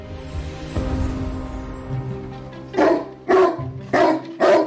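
A dog barks four times in quick, evenly spaced bursts, loud, following a few seconds of a steady humming tonal backdrop.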